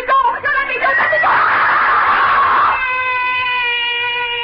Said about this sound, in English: Why am I screaming? Just a dream. I'll stop screaming.